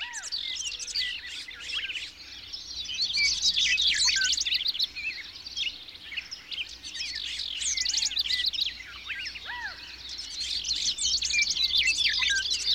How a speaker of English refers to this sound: As the sun rises at a particular spot, birdsong diminishes. But the Dawn Chorus itself is a never-ending wave that continually circles the globe, preceding the sunrise.